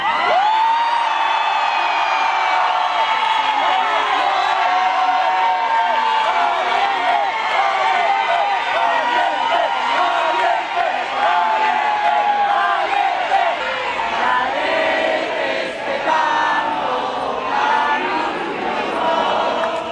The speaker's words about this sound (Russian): Сторонники Марии Мачадо встретили ее появление на балконе Гранд-отеля Осло овацией, национальным гимном Венесуэлы и скандированием слова «Либертад» — «Свобода».